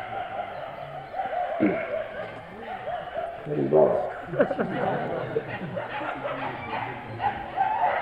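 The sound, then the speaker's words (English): Several dogs in Barsana bark and howl together in a continuous, overlapping chorus, with wavering, rising and falling howls that swell in the middle and carry on steadily throughout. “This is the kirtan of the dogs of Barasana.”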